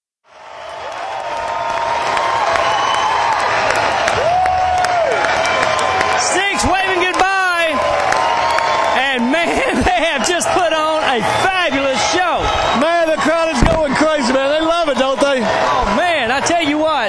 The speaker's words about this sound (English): And that got the crowd going, and you can still hear them yelling crazy. They're going nuts.